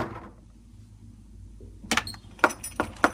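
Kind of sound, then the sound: household object, knocking on a door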